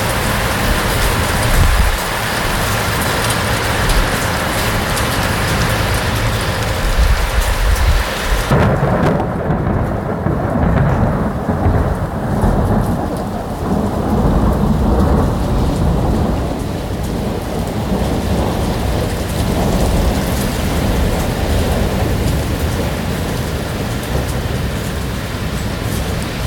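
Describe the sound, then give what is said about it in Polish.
A heavy thunderstorm over Lebanon at 3 or 4 a.m. in late November, with lightning over the Mediterranean Sea: steady, dense rain pours throughout while deep rolls and cracks of thunder rumble, with a loud burst around the middle that gives way to a long low rumble. “Przez chwilę, kiedy te pioruny tak waliły, wydawało się tak w takiej półśnie, że może kolejna wojna wybuchła w Libanie, ale na szczęście to nie była wojna, to była prawdziwa i porządna ulewa.”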